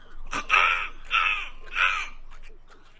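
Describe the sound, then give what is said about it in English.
A person imitates an egret call with three harsh, raspy croaks spaced evenly about half a second apart, loud, with no other talking. “Can you imitate your favorite egret sound?”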